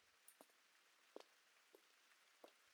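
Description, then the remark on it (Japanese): Soft, steady rain hisses in the background, with a few distinct drops tapping a surface at irregular intervals. The sound is quiet, and no one speaks. “雨で人も少ないし、見られたりしないよ。”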